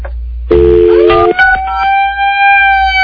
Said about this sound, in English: There's the bullhorn.